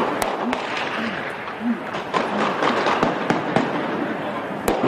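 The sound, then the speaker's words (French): Sustained gunfire crackles in rapid, irregular bursts during a police assault on a kosher grocery store on 9 January 2015 at about 5 pm, punctuated by a few louder, sharper blasts of stun grenades, over a dense wash of noise with voices shouting faintly underneath. “Des tirs nourris pendant de longues secondes. Des grenades assourdissantes sont lancées.”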